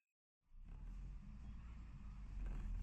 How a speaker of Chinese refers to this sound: 乘坐着客运汽车颠簸在泥泞的山路上，身体随着座椅靠背摇啊摆啊晃啊晃，蜿蜒曲折的山路和漫长的车程让你早已经疲惫